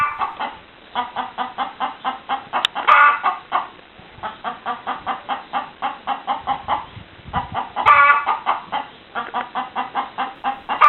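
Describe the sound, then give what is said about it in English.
Rescue hens, including Flora, cluck steadily in quick, rhythmic bursts, with a few louder squawking calls rising above the flock around the third and eighth seconds. “A bit of ingenuity from the beard gives the girls their dust bath back, reports Flora, the rescue chicken.”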